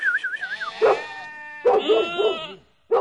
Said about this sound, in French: Un agneau. Donc tu as bloqué là-bas. Je vais mieux le faire descendre, le pauvre petit agneau.